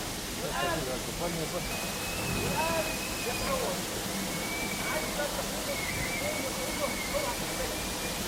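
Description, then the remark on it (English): A steady, dense roar of rushing water from a waterfall fills the background without pause, while people talk indistinctly over it. “He's going towards the waterfall.”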